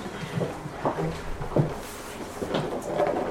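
Wooden scrapes and knocks of chairs being shifted as an audience settles in for a conference, scattered irregular bumps over a low murmur, moderately loud, with a faint voice or two in the background.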